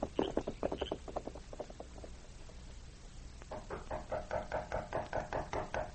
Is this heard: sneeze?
no